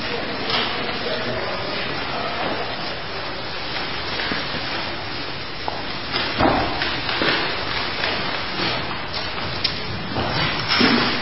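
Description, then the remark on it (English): Chairs being moved closer to the front and arranged in a circle, with scattered scrapes and clunks through a steady hiss of room noise, while faint voices murmur. “You might bring the chairs if you don't mind closer to the front here.”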